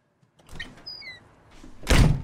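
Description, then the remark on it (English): A door slides and then shuts with a loud, solid thump near the end, preceded by some soft rattling and a brief high squeak. “She shuts the door in his face.”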